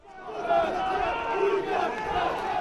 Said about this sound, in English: Activists crashed a memorial event near the Stock Exchange in Brussels Sunday. That event was being held in honor of those who were killed in last week's terrorist attacks. The right-wing activists shouted anti-immigration slogans